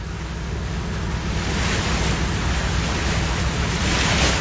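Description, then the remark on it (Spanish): Sea water rushes and splashes steadily and hard against a patera, a small boat, spraying the faces of all its occupants; a loud, dense wash of surf and spray that swells slightly toward the end, with no voices. “El agua salpicaba con fuerza los rostros de todos los ocupantes de la patera.”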